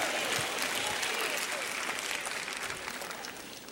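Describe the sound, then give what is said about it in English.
An audience claps steadily for a few seconds, a dense, loud patter of many hands that tapers off slightly toward the end, with faint voices mixed into the applause. “Ladies, don't clap too loud, too fast.”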